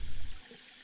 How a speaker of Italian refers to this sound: Curioso, viene dai bagni femminili, quelli sull'ammezzato della scala G. Oh, è solo un rubinetto aperto, pensa.